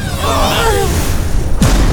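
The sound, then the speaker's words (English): A heavy door groans with a wavering creak over low rumbling, then closes with a single deep, booming thud that leaves a low reverberant rumble. “We have to shut the door to keep the sharp teeth inside!”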